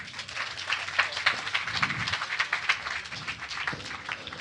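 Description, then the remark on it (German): Audience applause for a participant introduced at a microphone: a steady, dense patter of many hands clapping at once, moderately loud and sustained throughout with no voices over it. “Applaus für ihn bitte.”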